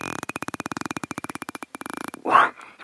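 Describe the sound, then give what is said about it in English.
A bottlenose dolphin, recorded by European scientists, makes a steady, rapid train of buzzing pulses, like a creaky growl, then lets out a short, louder squeal that rises and falls in pitch at the end. “It's a bottlenose dolphin recorded by European scientists who were trying to understand how dolphins and other toothed whales like orcas are able to produce these sounds.”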